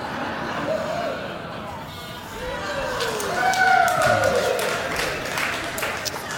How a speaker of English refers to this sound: That's all I needed. I needed one bit of applause today.